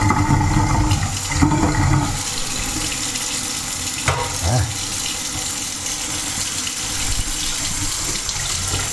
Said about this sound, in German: So, jetzt gieße ich erstmal in den Thermobecher Wasser, denn ich brauche die Menge. Lieber ein bisschen. Ja, so ist ganz gut, ja. Ist nicht ganz so viel.